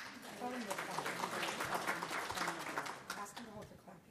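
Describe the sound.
An audience claps steadily during the announcement of a slate of nominees for officer positions, a dense, continuous patter that holds for several seconds, mixed with overlapping voices chattering and calling out underneath.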